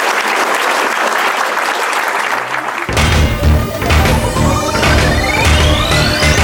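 A crowd applauds the panelists at the end of a discussion with steady, dense clapping; a few seconds in, bright music with a rising swoosh and a low thumping beat swells up beneath the continuing applause.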